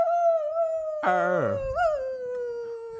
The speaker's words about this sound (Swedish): Lite extra ylande idag.